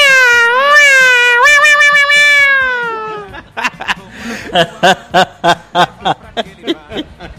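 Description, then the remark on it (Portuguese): A person at the Loja Estoque Lá store imitates a cat with one long, drawn-out meow, loud, gliding slowly downward in pitch, followed by several seconds of rhythmic, bursting laughter. “Consegue imitar aquele gatinho aí que tá todo mundo esperando aí,”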